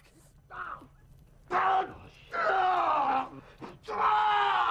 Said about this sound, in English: As the Sarge's screams echo throughout the house, downstairs, Ryan's warming himself in front of a fire.